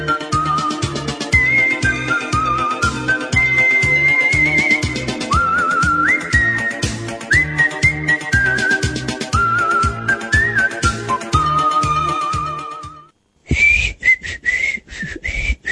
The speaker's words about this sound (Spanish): Y quiero ver si me sale el silbido este, ¿vio?